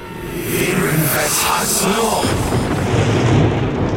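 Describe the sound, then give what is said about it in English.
A loud crack of lightning bursts into a heavy, booming rumble that roars across the full range and stays intense for about four seconds without fading. “a loud crack echoed through the house, through the world”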